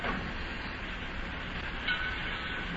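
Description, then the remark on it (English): Steady, dense rumble of a busy, crowded railroad terminal in Cincinnati, a broad wash of train and station noise holding at an even level throughout, with a brief brighter squeal near the end. “Why, of course we'll get to see a train. That's what this is. It's the railroad terminal.”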